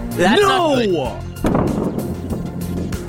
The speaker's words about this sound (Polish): Słuchając centrum dowodzenia, nic nie zapowiadało tej katastrofy. Inżynierowie nie dowierzali, gdy rakieta zamieniła się w kulę ognia.